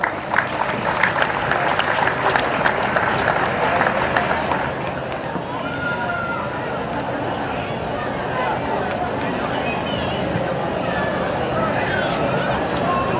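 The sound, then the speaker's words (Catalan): An audience at the 2025 Roquetes festival applauds loudly as the mayor and a councillor are called on stage to crown the Pulla Major and Hereu Major, dense crackling claps strongest for the first few seconds, then settling into a steady, even wash of clapping mixed with crowd murmur. “Un fort aplaudiment.”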